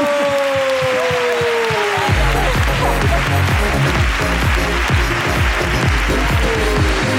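An audience on a show bursts into steady, loud applause for a guest's story after a brief voiced tone at the start; dense clapping continues evenly to the end, with no one speaking over it.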